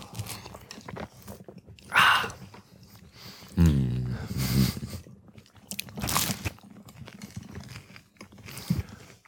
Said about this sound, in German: Ich schneide das auch einfach nicht raus. Wie wir hier die ganze Zeit nur am Kauen sind.